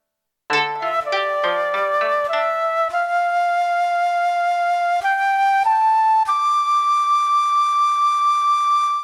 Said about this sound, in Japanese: すると、どこからともなくまた美しい笛の音が聞こえてきたのでありました。